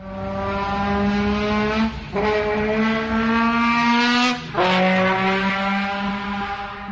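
A race car driving past, its engine roaring steadily with a loud, buzzing, harmonic drone, its pitch shifting upward partway through and then dropping sharply as it speeds past.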